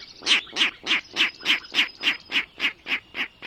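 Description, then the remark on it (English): A Virginia rail, unseen in a marsh in spring, calls in a steady, evenly paced series of about a dozen harsh, nasal grunting notes, fairly loud, with no voices. “Now there's a comical sound coming from the marsh. It's a Virginia rail, unseen but hardly unheard, ringing in the new season.”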